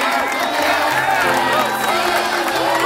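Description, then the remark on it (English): A studio audience cheers and claps loudly and steadily for the full few seconds, clapping in a man on his birthday, with whoops and mixed voices rising over a dense wash of crowd noise. “Clap him in.”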